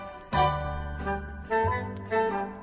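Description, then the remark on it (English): A telephone bell rings in a series of bright, chiming tones, four separate strikes spaced roughly half a second apart. Each ring is clear and fairly loud, then slowly fades away. “I was just about to kiss that sweet a dainty little miss when the phone bell rang.”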